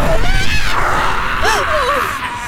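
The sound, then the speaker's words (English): A creature's wavering, warbling scream rises and bends over a dense, harsh noisy bed, loud, lasting a couple of seconds with no talking. “You hear that? You can scream at us all you want.”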